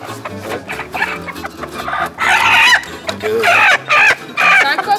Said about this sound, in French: C'est un coq, ça, hein. Ça s'entend.